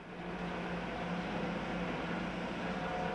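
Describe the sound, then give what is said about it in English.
A hearse engine drones steadily as it approaches an iron bridge at a border crossing, a low hum over broad rumbling noise that holds at an even, moderate level throughout, with no voices. “The trio look up expectantly on hearing the sound of the engine.”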